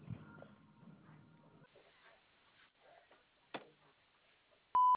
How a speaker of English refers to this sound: Sorry I'm not able to take your call, but if you leave a message after the beep, I will call you back.